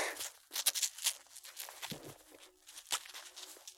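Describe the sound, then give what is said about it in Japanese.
The Velcro strap of a lace restraint wristband being pressed and fastened, giving a run of scratchy, crackling rasps in irregular bursts, bright and hissy, with no voices. “最初にマジックテープをキュッと。”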